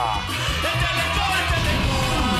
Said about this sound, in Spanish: Así que con este grito, ¡hija!